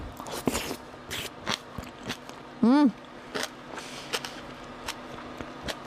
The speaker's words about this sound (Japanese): 噛めないです最後まで。うん、甘いよ。咀嚼しています、私。